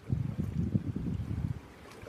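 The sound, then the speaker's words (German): Waves of the Indian Ocean in the Maldives, recorded live, washing and churning in a low, steady rumble, with a soft breezy hiss over it, fading slightly toward the end. No voices. “Du hörst also gerade den Indischen Ozean.”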